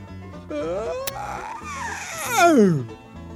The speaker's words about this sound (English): Well, when I realized what my flesh had done, that is, I jumped up from my gunny sack, threw an arch into my back, took a big stretch, opened my mouth to its fully extended position, threw a curl into my tongue, and yawned.